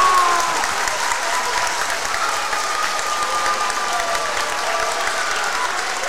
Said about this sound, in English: Crowd on its feet, and it's only going to get louder here as they break the huddle.